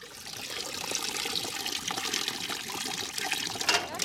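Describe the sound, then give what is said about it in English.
Water from a pool about a metre by a metre cascades down from bucket to bucket through a series of sieves in a pump-driven flotation tank used by Time Team, a continuous hissing rush with bright spattering, fairly constant in loudness. No one speaks. “that features a big tank of water cascading through a series of sieves and buckets, all attached to a pump”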